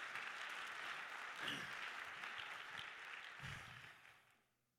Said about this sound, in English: Praise God. Let's clap our hands and thank the Lord together.